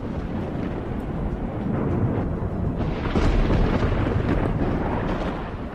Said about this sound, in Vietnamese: Chỉ thấy thanh quang nổ ra bùng bùng, từng đạo lôi mang màu xanh xuất hiện giữa không trung.